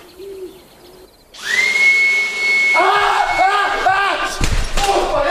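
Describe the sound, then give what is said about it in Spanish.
After a second of quiet, a vacuum cleaner switches on and runs with a loud, steady whirring whine as El Rubius uses it against a spider on a curtain. Voices sound over it, and a sharp thump comes near the end. “Usó un aspirador y la ayuda de su gato.”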